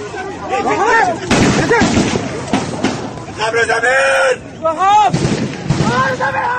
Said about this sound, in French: La fusillade dure plusieurs minutes.